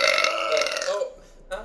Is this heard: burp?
yes